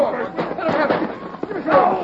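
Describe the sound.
Several sharp gunshot cracks ring out at irregular intervals amid a busy backdrop of excited voices and general commotion, moderately loud.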